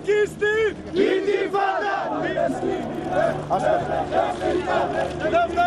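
A large crowd of protesters at a mammoth rally in central Athens chants "Intifada, Intifada" and "Free Palestine" in loud, rhythmic unison, many voices rising and falling together in repeated phrases with a steady, insistent cadence and no pauses.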